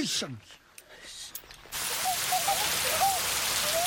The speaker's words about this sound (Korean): 비는 주룩주룩 내리고 마을 사람들은 어느새 모두 처마 밑에 가 있습니다.